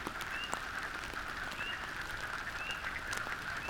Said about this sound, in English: Closing my eyes, I listen to the frog chorus and imagine the mating dance of the salamanders quietly taking place underwater as the frogs clamor loudly on the surface.